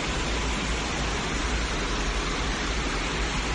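heavy rain falling

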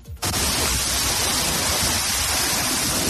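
rushing water

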